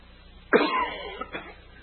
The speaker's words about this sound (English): Sorry about my cough here.